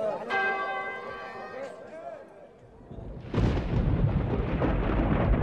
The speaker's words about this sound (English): I'll regale the knell of deep church bells rung for worshiper and blessed betrothed.